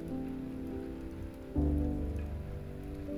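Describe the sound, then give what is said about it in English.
Gentle, steady rain hisses softly beneath sustained, calm musical tones. The pad swells slightly louder about halfway through, and no one speaks. “let the gentle rain wash them away.”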